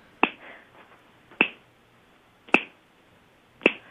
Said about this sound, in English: Can you hear like the singing and the snapping?